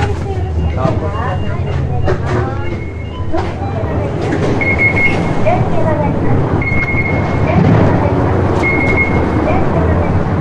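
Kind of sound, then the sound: vehicle, cement truck reversing beeps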